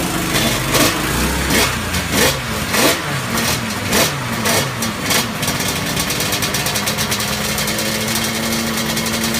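A two-stroke motorcycle engine blips its throttle in a series of sharp, rising revs, then settles into a steady, buzzing high idle. Loud, with no talking.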